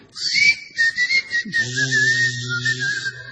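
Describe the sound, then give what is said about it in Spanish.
A person whistles a sustained, wavering tone to make a bathtub curtain open by itself, with short breaks early on, over a low steady hum that enters midway. “Bañera, una cortina que se abra sola ante un chiflido, por ejemplo.”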